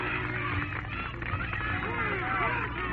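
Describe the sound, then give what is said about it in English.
A large stadium crowd at a swimming race cheers in a steady, continuous roar as a world record is about to be set, many voices blending into a dense wash of noise with occasional rising shouts, muffled and thin in tone. “Listen to the cheering of that crowd.”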